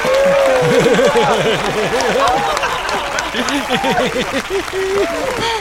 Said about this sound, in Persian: بله تشویق.